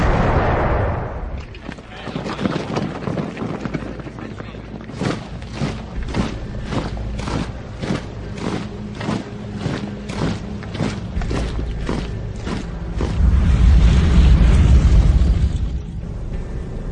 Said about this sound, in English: Hitler decides to launch his invasion of Poland and recover Danzig on the 1st of September 1939 at 5:35 a.m. The first cannon shot of the Second World War is fired on Danzig.